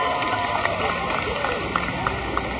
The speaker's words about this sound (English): It's just like them in a soccer game. It's just a lot of hooting and hollering.